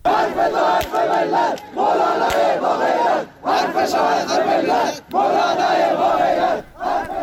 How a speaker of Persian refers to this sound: به گزارش کمپین فعالان بلوچ، حامیان محمد حسین گرگیج، مشهور به مولوی گرگیج که شمار آنها به 100 نفر می رسید، در تجمع روز یکشنبه شعارهایی در حمایت از امام جمعه گالیکش سر دادند.